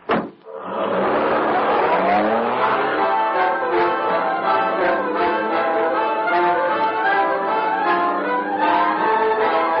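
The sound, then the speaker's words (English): A car roars away, its tires squealing in a loud, sustained shriek that rises sharply at the start and holds steady, with no voices. “I've checked the car. Get in.”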